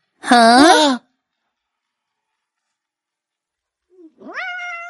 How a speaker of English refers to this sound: It's a kitten.